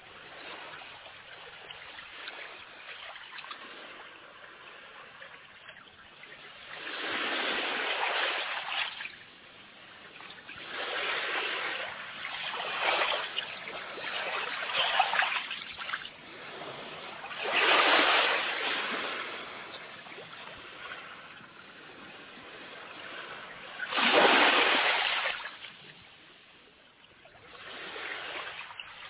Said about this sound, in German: Der Pazifische Ozean vor der kanadischen Stadt Vancouver auf einer LP aus dem Jahre 1973.